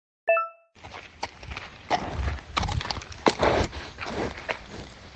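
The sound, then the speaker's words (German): A horse snorts and blows with breathy bursts and shuffling in an irregular rhythm, after a short chiming tone at the start. “So, das war Pferdeschniefen ASMR.”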